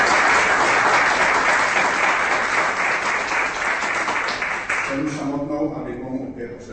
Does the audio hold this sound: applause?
yes